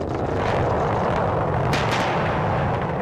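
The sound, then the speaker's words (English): Three sonic booms from a rocket booster landing itself back down to Earth: sharp, heavy booms in quick succession cut through a loud, continuous rumbling roar, with no voices. “It's also accompanied by three massive sonic booms that really startle you.”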